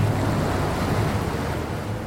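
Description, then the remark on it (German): Steady rushing water and wind noise on board the boat Gräfin Emma, moving slowly upstream on the Weser in Bremen towards the Hemelinger Schleuse lock, with a low engine hum underneath, continuous and fairly loud throughout with no voices. “Wir blicken von Bord der Gräfin Emma auf die Weser und bewegen uns ganz langsam flussaufwärts Richtung Hemelinger Schleuse.”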